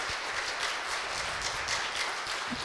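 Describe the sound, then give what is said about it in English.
An audience gives the cadet commander of Cadets for Christ a round of applause one evening, a dense wash of many hands clapping at an even, moderate loudness throughout, with no voices breaking through. “No, I'm kidding with you, but I do think we ought to give him a nice round of applause tonight.”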